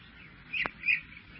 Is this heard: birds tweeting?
yes